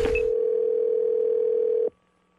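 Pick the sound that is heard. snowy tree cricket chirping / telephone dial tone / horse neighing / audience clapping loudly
telephone dial tone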